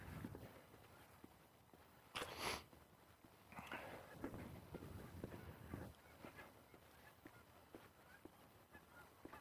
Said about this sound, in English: I'm hearing geese, but I'm seeing ducks.